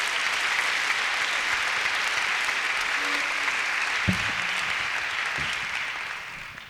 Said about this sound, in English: You give Mick Maloney a nice round of applause, too. It's always great to be part of him.